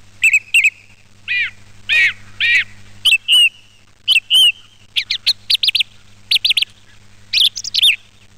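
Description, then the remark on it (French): A song thrush sings alone, clear, delivering short bright whistled phrases, each repeated two or three times in quick succession, with brief pauses between the phrase groups. “La grive répète son son, répète son chant.”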